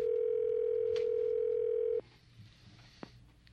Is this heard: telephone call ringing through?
yes